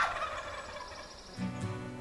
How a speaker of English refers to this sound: A dog started barking behind us. And then right behind us, we just heard a big, loud gobble.